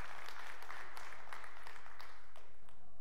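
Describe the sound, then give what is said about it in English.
An audience claps together in a steady, dense patter of many hands, fairly soft overall, continuing for about three seconds with no voices over it, applauding to show they enjoyed a series on 1 Corinthians. “How many of you, by way of just applauding, how many of you enjoyed this series in 1 Corinthians?”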